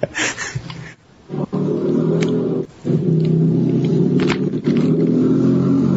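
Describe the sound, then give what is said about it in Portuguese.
A Harley-Davidson motorcycle rumbles past, its deep, throbbing engine loud and steady for several seconds, broken by a couple of brief dips in the roar. “Olha, passou uma motoca Harley Davidson.”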